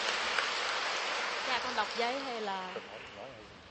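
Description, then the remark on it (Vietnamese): A crowd claps in a steady, dense wash of applause welcoming a woman who is the second person to give a testimony, filling the whole stretch, with a voice briefly rising over it midway before the clapping slowly thins. “Mời anh chị em nghe một chứng nhân thứ hai, một tràng pháo tay để gặp gỡ người chị em này.”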